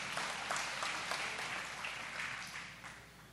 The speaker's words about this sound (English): So can you give me a round of applause on that one? All right, there we go.